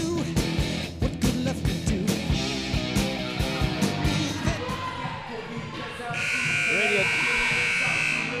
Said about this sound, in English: Interrupted there by the very loud buzzer here at the Conlin Center.